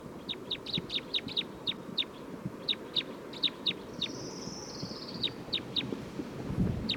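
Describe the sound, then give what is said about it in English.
A recording of bird number 311 gives a rapid series of short, high chirps in uneven bursts, with one longer sliding whistle partway through, over a steady low rumble of background noise. “It's recording bird 311 again.”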